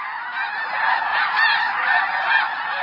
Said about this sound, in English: Many rise early to witness the magnificent spectacle of the sunrise flyout of some 14,000 sandhill cranes. And more than 30,000 Ross's geese and snow geese.